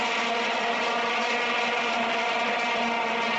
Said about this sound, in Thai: เสียงโทนต่ำของบูเซล่าอุปกรณ์เชียร์กีฬาที่ใช้ระหว่างการแข่งขันฟุตบอลโลกที่แอฟริกาใต้เมื่อปี2010กลายเป็นฝันร้ายของหลายคนในแบบที่เรียกได้ว่าลืมกันไม่ลงเลยทีเดียวครับ